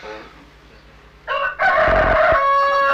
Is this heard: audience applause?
no